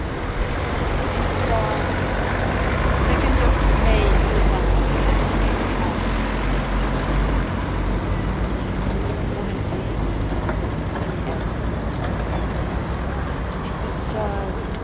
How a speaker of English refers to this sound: Kello on 3:10 ja tein juuri lähdettää äänitysloppuun tässä Lescanilin satamassa. Ohi meni muutamia kuorma-autoja ja 21 autoa ja yksi moottori tai mopo.